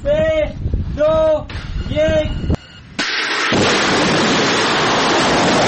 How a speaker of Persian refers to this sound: مرحله نهایی رزمایش موشکی سپاه پاسداران روز سه‌شنبه برگزار شد. عملیات شلیک موشک عماد با رمز مقدس یا ابوالفضل العباس.